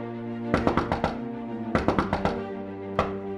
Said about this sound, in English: But I think with all the thieves' can on the door, you can see that there is the symbols for a secret knock to be done on the front door